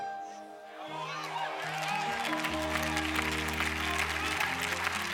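A large audience listening to a preacher in Zimbabwe breaks into sustained applause, the dense clapping swelling after the first second and continuing steadily over held organ-like chords that shift in pitch underneath.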